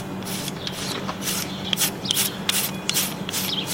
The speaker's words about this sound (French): Alors première chose, on brosse le cheval.